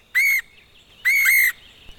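Two loud, clear bird calls, each a short harmonic squawk or whistle lasting under half a second, separated by a brief pause against a quiet background.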